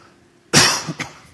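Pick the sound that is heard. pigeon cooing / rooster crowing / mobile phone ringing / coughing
coughing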